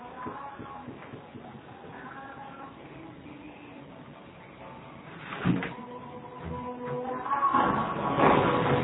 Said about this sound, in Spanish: Déjenme cerrar la puerta porque hay música, permítanme.